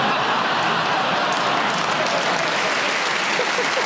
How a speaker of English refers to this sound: I don't know why you clapped that.